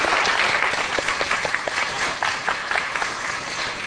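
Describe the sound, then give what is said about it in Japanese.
An audience applauds a student who has just passed recommended admission to TCU, many hands clapping in a dense, sustained wash with scattered sharper claps standing out, fairly loud and even throughout with no one speaking. “せっかく拍手してもらいましたので立ってください。もう一回拍手しましょう。”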